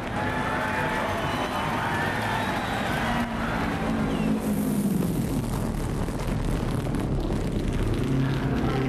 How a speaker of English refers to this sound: And in the next moment, we're trackside at the famous 500-mile speedway race.